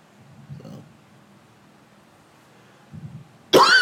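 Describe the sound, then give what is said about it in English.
A man coughs after eating popcorn: two muffled, low bursts spaced apart, then a sudden loud, harsh cough at the end. “Flint Town boy doing a lot of coughing, man.”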